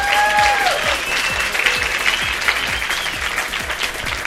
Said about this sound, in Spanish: Nos merecemos hacer... un aplauso, ¿no? Exacto.